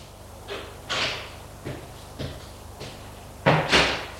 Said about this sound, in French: On a frappé à la porte.